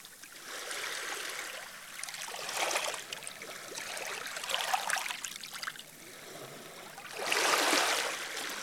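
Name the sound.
flowing water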